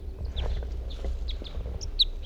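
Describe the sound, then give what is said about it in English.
A male songbird sings right next to the nets in short, bright chirping notes scattered over a couple of seconds, over a steady low outdoor rumble with no talking. “That was a male who was singing right next to the nets I hear somewhere. Here he is again.”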